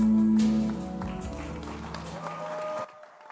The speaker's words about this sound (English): Your hand clap be louder. Let the hand clap be louder. Louder, louder still. Let your hand clap be louder. And you're allowed to add a shout to it.